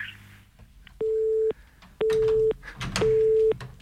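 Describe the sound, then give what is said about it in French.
A telephone tone sounds on air on Radio Canu after a caller hangs up: three steady, evenly spaced beeps, each about half a second long, fairly loud over faint background noise. “Et on est toujours à l'antenne sur Radio Canu, les appels fonctionnent, on a même ce petit bruit de téléphone. Pourquoi a-t-on le bruit alors que ça a raccroché ?”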